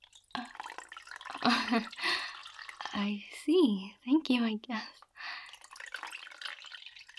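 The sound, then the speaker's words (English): Water trickles and drips as it is poured over a person's body while they sit in bath water, a soft liquid patter running beneath a quiet, intimate voice that speaks briefly over it. “I like when you pour the water over me because it makes that noise, the trickling.”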